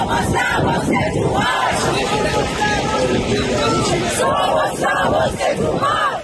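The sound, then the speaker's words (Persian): A large crowd in Madrid, Spain, shouts the name of Toomaj Salehi together in support of him at a protest, voices rising in loud, rhythmic chants that repeat steadily over a dense wash of cheering and babble. “در مادرید اسپانیا هم عده زیادی در حمایت از توماج صالحی نام او را فریاد زدند.”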